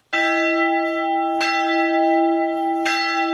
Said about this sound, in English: The bells of Al-Tahira Church ring out across Mosul, a symbol of the rebirth of the old city that was left devastated 8 years ago after the battle to drive ISIS out.